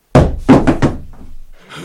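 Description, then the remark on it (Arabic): Four heavy, forceful knocks pound on Lot's wooden door in quick succession, loud, as people outside demand he open it or they will break it down, followed by a short lull and a faint rustle. “افتح الباب افتح الباب يا لوط، افتح افتح الباب وإلا كسرناها عليك.”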